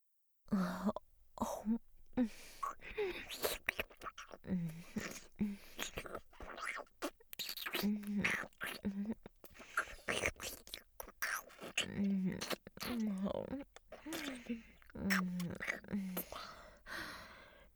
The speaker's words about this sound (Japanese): 私の息遣い、唾液の音、いっぱい感じてください。